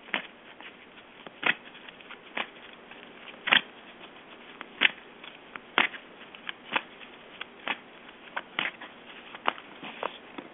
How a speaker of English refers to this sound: Let me shuffle some cards. Let me know when you feel your energy's in there. Okay. And I'll stop shuffling when you feel it.